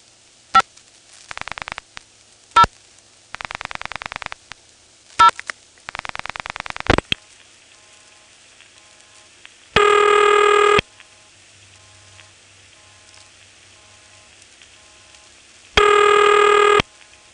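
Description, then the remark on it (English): A telephone call is dialed from the Occoquan office down to a ringing number in 221 at Triangle, with a quick run of clicks and short tone bursts, then falls quiet before two steady ringback tones sound, each about a second long and several seconds apart. “Here's a ringing number in 221.”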